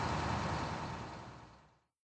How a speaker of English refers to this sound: Look, here comes a bus.